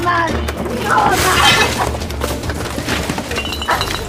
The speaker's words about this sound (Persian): با عصبانیت و گریه وسایل اتاق مازیا رو به هم میریزه و میشکنه.